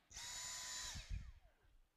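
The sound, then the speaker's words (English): A Dyson vacuum cleaner motor kicks on abruptly with a loud, high whine, runs steadily for under a second, then shuts off and spins down, its pitch sliding lower as it fades. “The reason for that is because I like to vacuum, and because it makes a really cool noise when it starts up and shuts down, and I happen to bring it with me.”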